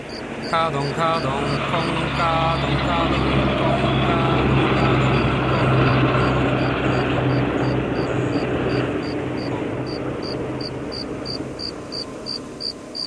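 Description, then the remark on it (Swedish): A very large truck rumbles past, its deep engine drone filling the scene before easing off slightly at the end, while crickets chirp steadily in the background. “En jättestor lastbil åker förbi.”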